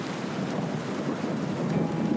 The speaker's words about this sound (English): And then I do hear music. The rain is becoming music.